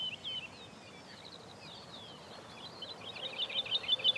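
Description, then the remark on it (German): A woodlark (Lullula arborea) sings softly amid other faint, high chirping birds by a path through heather on sandy ground, ending in a quick run of repeated, liquid high notes that grow a little louder. No one speaks. “Vielleicht ist ihr lateinischer Name deswegen Lulula Arborea.”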